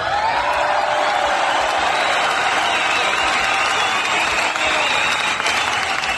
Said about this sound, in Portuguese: Aê, palmas para mim.